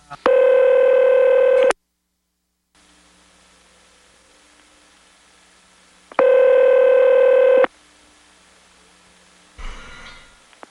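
A telephone being dialed: two long, steady electronic tones sound a few seconds apart over faint line hiss, then a short rustling clunk near the end. No voices.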